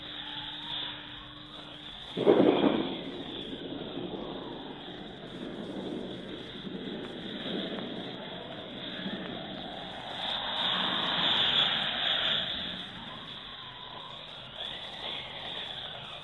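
A thunderstorm with sea waves crashing against rocks into wild foam: a sharp thunderclap early on, then a steady roaring wash of surf that swells and surges midway before easing back, with no voices.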